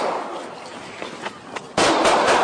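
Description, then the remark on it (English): Several sharp gunshot cracks pop out of a hissy, rough cell phone recording made by a resident in and around the Sunnydale Velasco housing project, followed by a sudden loud burst of harsh, sustained noise that fills the last second. “There have been at least 10 murders in and around Sunnydale this year, and countless more shootings than that. A resident recorded that one on her cell phone.”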